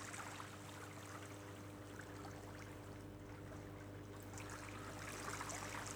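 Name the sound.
trickling water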